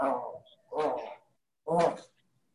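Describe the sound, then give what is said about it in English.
A dog gives three drawn-out, voice-like barks, each about half a second long and separated by brief pauses, heard fairly clearly with no other sounds around them. “Is that a dog or is that somebody talking?”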